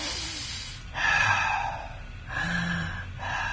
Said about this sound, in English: Well, he meditated every day. Meditate is like the Buddhist tradition, right? Breathe in, breathe out. Sit down, close your eyes.